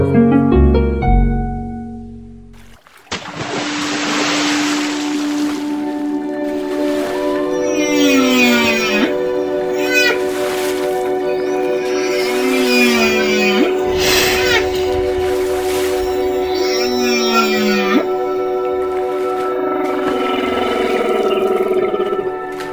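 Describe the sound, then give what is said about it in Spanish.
Humpback whale song in Bahías de Huatulco: long moaning tones and sliding, swooping calls repeated in phrases every few seconds over a steady underwater hiss, following a brief voice at the start. “Así se escucha el canto de una ballena jorobada en Bahías de Huatulco.”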